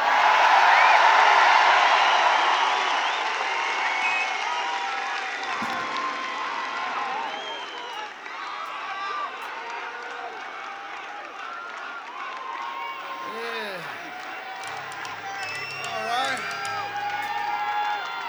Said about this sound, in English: I could hear you all the way in the back. Good singing, everybody.